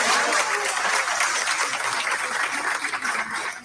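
Steady audience applause fills the moment, a dense wash of many hands clapping at even loudness throughout, easing slightly toward the end with no voices over it.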